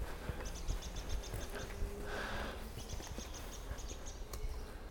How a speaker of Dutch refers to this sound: Is het alarm? Alarmerend roodborstje of zo. Oh, en een merel. Heel veel alarmerende merels.